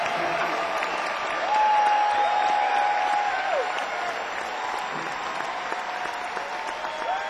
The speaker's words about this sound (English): Another big round of applause for this fine orchestra. And for Jim Ed Norman, conductor, composer.